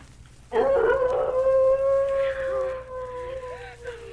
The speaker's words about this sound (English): If what made those footprints is doing that howling, then it must be a wolf.